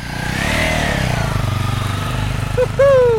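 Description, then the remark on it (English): Two identical motorcycles ridden by two young men, spare fuel strapped to their saddlebags, rumble and putter steadily on a winding road toward the headwaters of the Coa River, a rapid throbbing idle that swells slightly, with a short rising tonal whine near the end. “Two young guys on motorcycles.”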